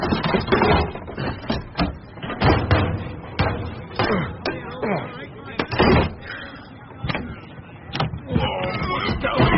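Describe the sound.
A string of heavy thuds and bumps as cases are loaded into a car trunk, then a solid slam. Muffled voices are heard throughout.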